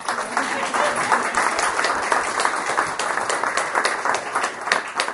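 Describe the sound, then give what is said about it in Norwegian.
An audience applauds with steady, dense clapping that fills the full five seconds at an even level, a crowd of many hands rather than a few, with no pause or fade. “Og klappa.”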